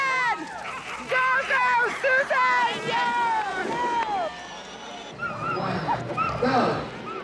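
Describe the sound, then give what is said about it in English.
A pack of excited sled dogs yips, whines and barks all at once, high overlapping cries rising and falling, turning into choppier, noisier barking toward the end. “The longest sled dog race in the world.”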